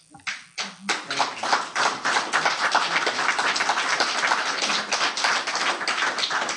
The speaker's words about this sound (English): That's twice the applause.